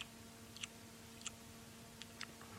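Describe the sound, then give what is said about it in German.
Wet, smacking chewing sounds come in scattered bursts, a handful of short clicks and smacks spaced irregularly over a low steady hum, fairly quiet. “Vielleicht können wir hören, aus welcher Richtung das Schmatzen kommt.”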